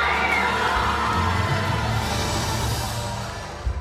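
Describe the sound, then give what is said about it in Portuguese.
A large crowd of Russians in the audience erupts in sustained cheering and applause as FIFA's Sepp Blatter announces Russia as host of the 2018 FIFA World Cup, a dense roar of many voices that stays loud throughout before easing slightly at the end. “Ele anuncia Rússia, para a alegria dos russos na plateia.”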